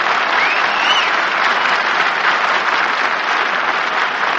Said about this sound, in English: You see, Brother Carpenter has got you your big clam bake on and off the air for a full year now. And we think it's worth at least a burst of spontaneous applause. So let's get spontaneous. Now, come on, give him a hand there, boy.